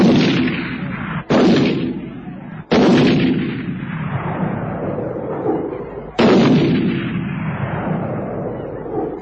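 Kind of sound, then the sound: sound effect, rapid rifle gunfire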